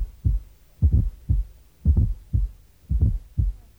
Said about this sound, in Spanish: Escuche ahora un corazón con un cuarto ruido, con la campana del estetoscopio ligeramente apoyada. Luego se realizará presión con la campana. Note cómo desaparece el cuarto ruido. Campana suavemente apoyada.